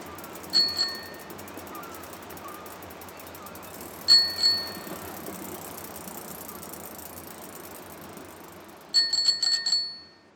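A rented bicycle's bell rings in three bursts while riding along the seafront bike path at Caddebostan, Istanbul: a quick double ring, another double ring, then a rapid trill of several dings, bright and high-pitched over a steady low rumble of riding noise.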